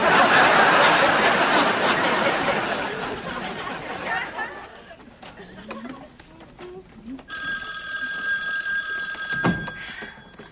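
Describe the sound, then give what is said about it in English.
Crowd laughter swells and fades, then a telephone bell starts ringing loudly and steadily in the last few seconds, a bright continuous metallic trill. “Oh, Jack! Phone!”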